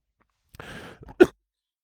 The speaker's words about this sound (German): Kurze Hustenattacke, ich hatte vorher gewarnt.